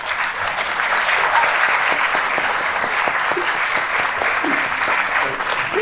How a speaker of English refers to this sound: And a huge thanks to the panel. And let's give them a round of applause.